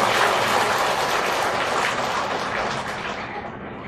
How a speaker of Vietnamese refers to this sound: Thì bây giờ tất cả các Phật tử chúng ta cho một tràng pháo tay để mừng những người tròn 60 trở lên.